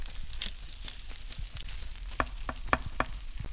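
Hot butter with rum (50 grams butter to 25 grams rum) sizzles and crackles over golden nut strudels just taken from the oven: a steady hiss broken by sharp pops and spits, several louder crackles toward the end, with no one speaking.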